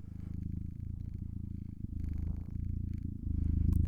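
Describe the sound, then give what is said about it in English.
A man imitates a cat's purr with a continuous low rumbling voice while stroking his beard, steady and rhythmic for several seconds, swelling a little louder toward the end. “Yeah, I'm stroking my beard and purring.”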